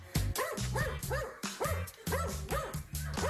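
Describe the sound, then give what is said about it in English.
A dog barks repeatedly in quick, steady succession, each bark sharp with a slightly whiny, yelping edge. No one speaks. “Apparently, we're not the only ones who find this barking annoying.”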